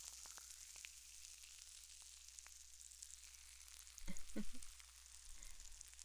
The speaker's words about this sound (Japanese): はい、では仕上げの秘密兵器ですよ。炭酸の泡でお耳をすっきりさせましょうね。シュワシュワがパチパチってして気持ちいいんですよ。